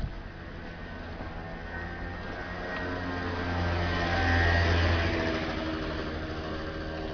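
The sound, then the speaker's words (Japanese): A motorbike, ridden by an elderly woman checking left and right at an intersection about 8 metres ahead, hums steadily, its low droning note swelling louder midway as it draws closer, then easing off slightly. No one speaks. “バイクが来ました。”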